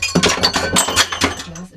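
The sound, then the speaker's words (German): A drinking glass breaks with a burst of sharp, bright clinks and tinkling fragments over a couple of seconds, fairly loud, followed by a brief murmur of a voice at the end. “Naja, zumindest nur ein Glas gebrochen und kein Herz.”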